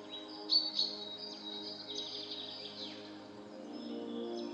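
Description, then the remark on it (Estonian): Bright birdsong rings out in quick high chirps and whistled phrases, with a couple of louder calls near the start, over a soft steady low hum in the background. “Tunne taju kujutle või mõtle kaunile linnulaulule.”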